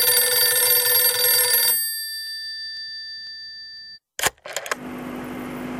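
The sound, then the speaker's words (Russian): A telephone rings with a bright, metallic trill that cuts off and lingers as a fading tone, followed by a couple of sharp clicks and a steady line hiss. “Вдруг зазвонил телефон.”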